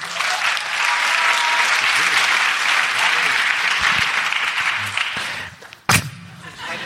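An audience claps in a steady, dense roar of applause for about five seconds, then it fades quickly and a single sharp knock or thud cuts through near the end.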